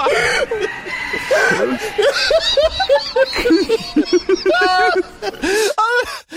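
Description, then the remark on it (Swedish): A rooster crows over and over, its calls climbing higher and shriller, tangled with its owner's loud, hearty laughter, the whole burst growing more frantic toward the end. “Jag vet, men alltså, det är också som hans så här liksom tuppgalningar bara liksom eskalerar ännu gällare och gällare.”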